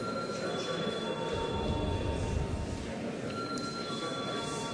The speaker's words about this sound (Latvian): Lūdzu deputāts balsot par lēmuma projektu. Lūdzu zvanu.